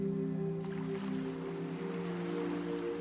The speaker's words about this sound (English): And you start to walk towards the warm, gentle waves with a sense of joy and relief. You step gently into the sea and straight away feel the relaxing warmth of the water